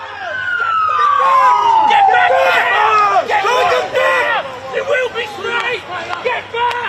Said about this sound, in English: Crowds rioted outside the town's hospital where Jefferson Lewis, the man wanted over the death of Kumanjai little baby, was being held.